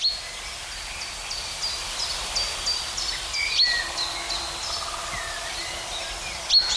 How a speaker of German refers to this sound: Und das ist jetzt sein Kontaktruf. Eindeutig keine Kohlmeise. Pink. Pink, pink.